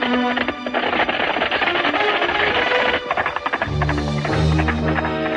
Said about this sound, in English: The five bandits ride side by side, tearing up the dirt road out of town.